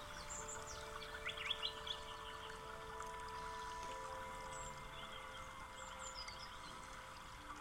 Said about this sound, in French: Et vous accueillez toutes les sensations, les chants d'oiseaux.